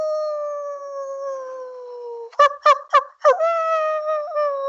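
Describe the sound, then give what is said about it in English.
A person imitates a dog's howl: a long, steady wail, broken midway by four quick yelping bursts before the drawn-out howl resumes. No other voices or sounds are present. “show me this terrible howl that you've got.”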